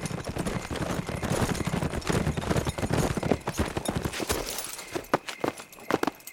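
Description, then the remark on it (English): Several horses ride at a brisk pace, their hooves clip-clopping in a dense, rapid, overlapping rhythm that thins out toward the end into a few sharper, scattered clops. No one speaks. “Red ultimately decided to ride to the Lightning Ranch, find Dale, and torture the information out of him.”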